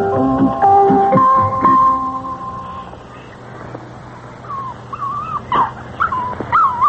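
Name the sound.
dog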